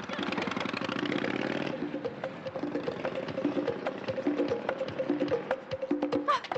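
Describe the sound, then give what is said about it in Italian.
A car engine turns over with a dense, rising roar, then settles into a steady idle with rapid, regular ticking pulses, moderately loud, with no voices. “Se non metti in moto subito, chi ti ammazza d'accordo, sarò io.”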